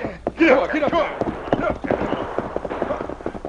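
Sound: horse hooves clip-clopping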